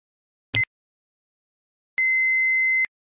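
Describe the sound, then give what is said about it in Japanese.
A brief click, then after a pause a single steady answering-machine beep, about a second long, clear, with silence around it and no voices, as answering-machine messages are played back. “留守番電話のメッセージを聞いています。”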